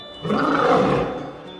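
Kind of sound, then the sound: animal, lion roaring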